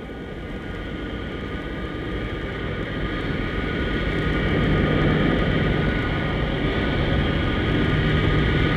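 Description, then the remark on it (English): A steady, loud airplane engine roar with a whining tonal hum, growing slightly louder over several seconds as the aircraft draws nearer on its landing approach; no voices. “The plane is landing now, approaching the runway.”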